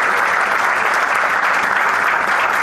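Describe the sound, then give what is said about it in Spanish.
Sustained applause from an audience at an award ceremony as a father and son receive a silver medal and diploma for the Balanzas Cook weighing system for forestry cranes, a dense, steady wash of many hands clapping at an even, loud level throughout, with no voices standing out. “Así hacen entrega el diploma, también la medalla y el aplauso de ustedes, por supuesto, para cerrar este momento.”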